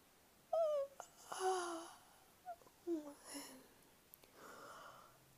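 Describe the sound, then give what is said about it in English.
Two yawns from a cat in quick succession, each a squeaky, drawn-out tone trailing into a breathy exhale, fairly soft, followed by a faint airy breath. “Double yawn.”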